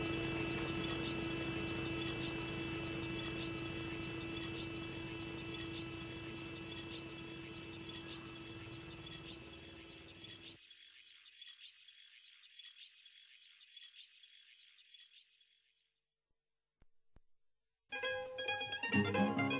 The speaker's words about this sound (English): Each bee moved to the center of the cluster to keep warm. The sounds of the bees is calm and almost silent.